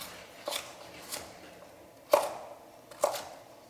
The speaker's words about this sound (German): Da kann das mit rein. So. Erstmal hier so in Scheiben schneiden.